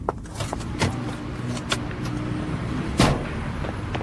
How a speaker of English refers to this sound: Ah, this BMW appears to be taking a shortcut past my house.